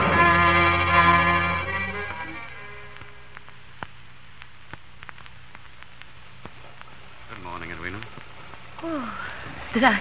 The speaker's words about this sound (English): How's the weather this fine morning? Raining.